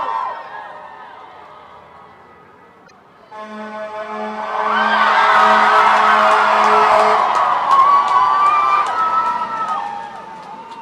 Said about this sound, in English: you can just see the streets over there on that side of Washington, and they're absolutely packed. Hundreds and hundreds of protesters are gathered on both sides, protesting peacefully.